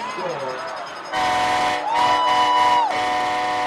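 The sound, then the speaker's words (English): A loud train horn blows one sustained blast from the visitors section of a stadium, about a second long, signalling that the Hebron Hawks have scored against the Allen Eagles, over a dense roar of cheering crowd noise, with wavering voices rising just before it. “The Allen Eagles haven't lost a game all season, but every time the train horn sounds from the visitors section, it means the Hebron Hawks have scored.”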